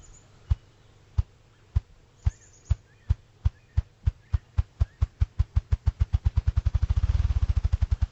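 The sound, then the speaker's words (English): A male ruffed grouse drums with its wings, recorded by the Ruffed Grouse Society: deep, muffled thumps start slow and evenly spaced, then quicken into a rapid accelerating roll that blurs into a low whir before stopping, heard alone. “They flap their wings so quickly, so hard, that they create a vacuum, and it's actually like a mini sonic boom, and that's what we're hearing.”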